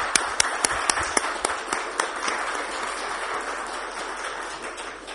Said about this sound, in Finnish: Eikö ole hienoa, että meillä on tällainen jippikuoro? Eikö anneta vielä aplodit?